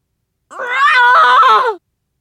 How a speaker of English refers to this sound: … ear-splitting scream shakes through the mountaintops.